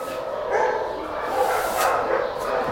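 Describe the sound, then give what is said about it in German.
Several small dogs, mostly Podencos, bark and yip in their kennel enclosures in an overlapping, continuous chorus, fairly loud, with a few higher whimpering yelps mixed in. “Sind jetzt in den Gehegen, wo die kleineren Hunde sind und vorwiegend Podenkos.”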